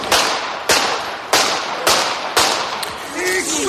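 gunshots

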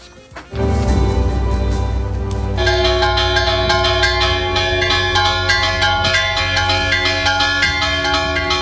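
church bells ringing

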